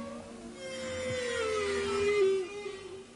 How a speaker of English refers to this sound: This is a recording of humpback whales in the distance approaching the Silverbank, a large area of coral off the coast of the Dominican Republic, which I recorded whilst on board the Dardanella.